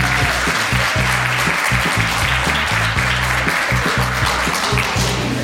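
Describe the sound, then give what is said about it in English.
A conference audience applauds steadily, a dense wash of clapping at a loud, even level throughout, with a low musical hum or bass tones pulsing underneath. “So thank you once again, and a round of applause for everyone.”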